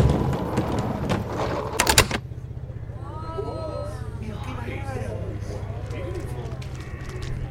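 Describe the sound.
A door is opened with a rattling, clunking burst of noise lasting about two seconds at the Salar de Uyuni salt flat. Voices follow over a steady low engine-like hum.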